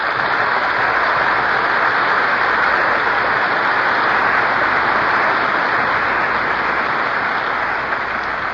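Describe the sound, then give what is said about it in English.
A large audience at the Civic Auditorium in Oakland, California claps steadily in a dense, continuous wash of applause, loud and sustained for several seconds with no voices rising above it. “I just told our audience about my hazardous journey to Oakland, and they applauded.”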